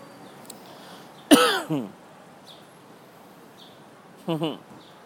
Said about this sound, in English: English sparrows love airports.